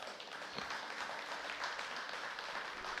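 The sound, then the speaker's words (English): A room full of people applauds steadily for two people who raised their hands to give their life to Christ, a dense, sustained wash of many hands clapping at once with no pauses, moderately loud, filling the whole moment. “We can clap for that.”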